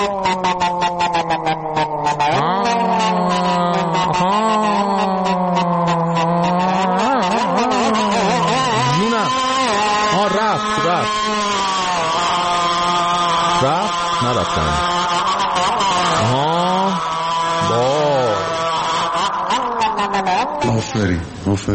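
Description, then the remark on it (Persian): A man's voice, a cleric on stage, imitates the exhaust of a Honda 125 motorcycle engine revving, with buzzing, rising and falling throttle sweeps sustained loudly and continuously for about twenty seconds. “آفرین ماشاءالله، واقعا ماشاءالله داره، واقعا حاج آقا انقدر قشنگ میتونه صدای اگزوز هوندا 125 در بیاره، حتما خود معظمله میتونه دیگه صدای موتور مثلا 1000 رو در بیاره.”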